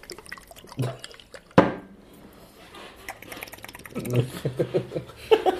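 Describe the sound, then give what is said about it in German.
Hot sauce drips and squirts from a squeeze bottle with a spray nozzle, with a sharp click early on and a run of small wet spurts near the end, faint murmuring voices underneath. “Oh, da ist sogar da ist so ein Spritzaufsatz drauf.”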